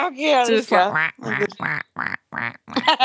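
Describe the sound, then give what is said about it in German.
A person imitates a duck, letting out a rapid series of loud, nasal quacks, one long drawn-out call followed by several short, choppy ones. “Ja, quack, kannst du nicht machen, weil du hast keinen Schnabel.”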